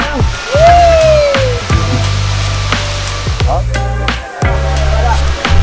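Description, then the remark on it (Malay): Steady rushing water of a waterfall roars continuously in the background, a broad hiss with a low rumbling hum and a brief rising whistle-like tone near the start, heard while walking along a trail toward the waterfall. “Okay, I tahu dah nak sampai dah air terjun sebab I dah dapat dengar the waterfall.”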